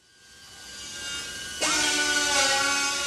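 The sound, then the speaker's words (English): A high-pitched power tool whines steadily in the trim and drill shop of Cessna's small plant at the Bend Airport, where drills and sanders trim excess composite material from molded parts; a second drill kicks in partway through, its rising tone spinning up and staying loud. No one speaks. “It's still a busy place with layoff survivors using drills and sanders to trim excess composite material from molded parts.”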